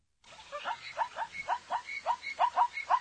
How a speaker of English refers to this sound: That's a zebra? It says zebra.